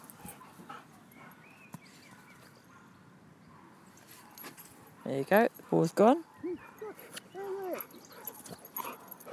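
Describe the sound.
A dog, Pocky, whimpers in a few short, high-pitched whining bursts in a park, with quieter snuffling around them, while a person talks over the sound.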